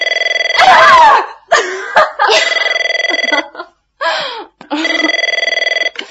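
A telephone rings loudly in several warbling bursts, broken up by brief gurgling, squawk-like noises between the rings.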